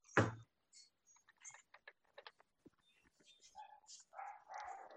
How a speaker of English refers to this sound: Here come the dogs.